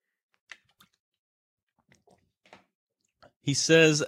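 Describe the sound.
A few quiet sips and wet mouth clicks spaced out over several seconds as someone drinks water, before a voice begins speaking loudly at the end.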